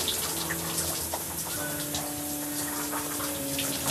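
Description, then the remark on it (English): Steady running water pours and splashes continuously over hair in locs while it is being washed, drenching the locs and scalp, a broad hissing wash with a faint low hum beneath it and no talking. “first thing I like to do, really and truly, is drench my locks”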